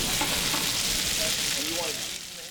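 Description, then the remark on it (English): Hash browns sizzle steadily on a flat-top grill at the Waffle House on Dixon Street in Fayetteville, a dense, bright crackling hiss that holds at a constant loudness, with a few faint tonal clinks and murmurs underneath, easing slightly at the end. “To kick off the festivities, I took a field trip to the Waffle House on Dixon Street in Fayetteville, where hash browns were sizzling on the flat-top grill.”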